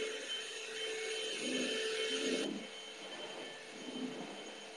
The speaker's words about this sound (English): Oh, we're gonna vacuum just a little bit more.